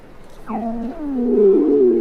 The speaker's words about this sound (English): See? My stomach is even growling. Here, I'll let you listen closer.